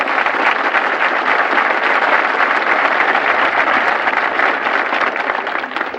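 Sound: audience applause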